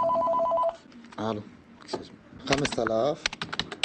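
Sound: telephone dialing tones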